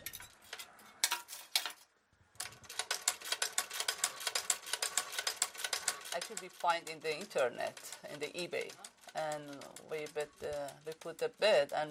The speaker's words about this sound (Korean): 이 재봉틀은 인터넷에서 찾았어요. 이베이라는 경매 사이트인데요. 150년이나 된 재봉틀이에요. 전기가 아니라 발로 움직이는 수동 재봉틀이죠.